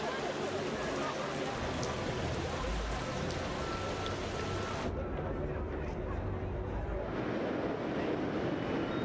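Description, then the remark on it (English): Steady rain patters down on a bridge during Breakfast on the Bridge at Sydney's Crave food festival, in a dense, continuous hiss, with faint indistinct voices in the background and a slight change in tone partway through. “Even the rain couldn't dampen their spirits.”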